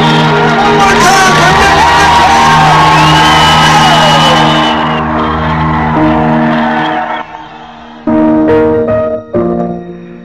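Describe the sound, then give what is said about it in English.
A loud, dense crowd cheers and shouts at the finish line of the Leaky Drive, with whoops and yells rising over a steady roar that carries on for several seconds before thinning into scattered voices near the end. “With the crowd there, all the excitement, the noise, and the announcers announcing all that, the adrenaline just gets flowing.”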